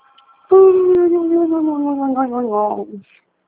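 A dog lets out one long, loud howl, holding steady for a couple of seconds before sliding gradually lower in pitch and cutting off, with nothing else around it.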